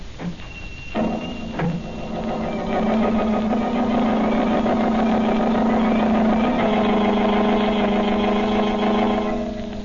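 The Blue Beetle's speedy motor car engine turns over and settles into a steady, loud running hum as he sets out at night in search of murderers, its droning tone holding continuous for several seconds with no voices.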